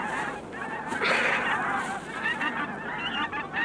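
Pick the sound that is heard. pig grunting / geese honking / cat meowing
geese honking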